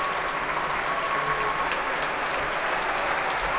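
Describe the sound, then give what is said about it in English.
Sustained applause from orchestra musicians and the audience at a concert, as a performer returns to the stage with Donald Runicles: a dense, steady wash of many hands clapping at an even loudness throughout, with no voices standing out. “Still clapping, musicians and audience.”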